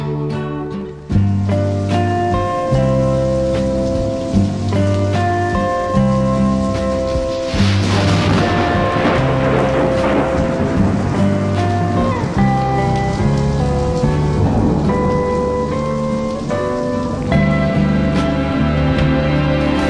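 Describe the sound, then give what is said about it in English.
Steady rain patters on a surface beneath a full band playing sustained chords, with a louder rush of stormy noise swelling about a third of the way through and slowly easing back. “I believe I'm gonna rain”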